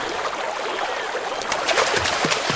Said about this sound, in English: That's why the sound of the river gradually increased.